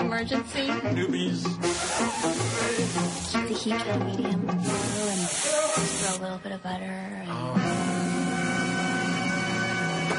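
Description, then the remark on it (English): A loud, steady spraying hiss gushes on and on in long bursts from a spray tan machine at a tanning salon that sprays too strong and doesn't shut off, layered over busy background music and voices. “So Travolta takes him to a tanning salon and he gets a spray tan. Mm-hmm. But it's too strong and it doesn't shut off”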